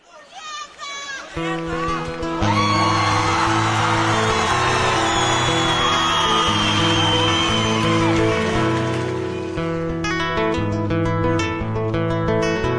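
A song plays with a steady instrumental backing while a crowd cheers and whoops loudly over it; the cheering swells after the opening seconds and eases off toward the end.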